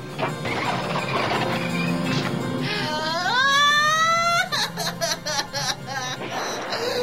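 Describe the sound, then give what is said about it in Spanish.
A high, wavering wail of crying rises and holds for a couple of seconds, then breaks into choppy sobbing bursts, over a busy, clattering background of noise. “Alguien está llorando.”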